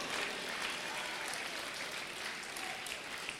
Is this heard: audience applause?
yes